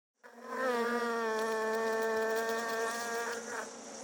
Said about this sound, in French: Regarde ces abeilles! Elles volent de fleur en fleur. Elles prennent le nectar et avec ce nectar, elles fabriquent le miel.